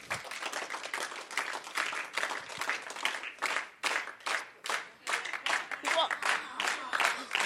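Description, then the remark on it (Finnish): A mixed group of people, asked to find a common rhythm, claps together, starting as scattered applause and quickly settling into a steady shared rhythm of sharp, bright claps that repeats evenly for several seconds. “Katsotaan, onnistuuko meitä, on aikamoinen sekalainen taputtajajoukko tässä, mutta katsotaan, miten käy, ja ei muuta kuin 3 lähdetään taputtamaan, joten 1, 2, 3.”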